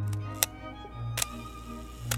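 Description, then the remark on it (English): A film camera fires three times, each a sharp mechanical shutter snap followed by the brief whir of the motor winder bringing the mirror back down, set against a low steady hum. “Now this one is, you're hearing the shutter go off and you're hearing the winder going down to bring the mirror back down again.”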